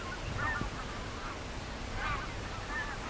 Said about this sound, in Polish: Tutaj bardzo dużo przylatuje. Właśnie są gęsi, kaczki.